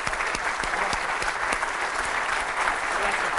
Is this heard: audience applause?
yes